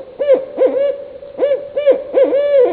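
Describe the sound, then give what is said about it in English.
Barred owl hooting in a loud series of rich, resonant calls with rising and falling inflections, grouped in quick bursts with short pauses between. “Because barred owls are taking over their territory.”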